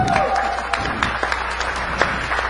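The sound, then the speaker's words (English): An audience breaks into sustained applause for Jennifer Granick, a dense wash of many hands clapping with a few sharper claps standing out, steady and fairly loud throughout. “Jennifer, everybody give Jennifer a hand of applause.”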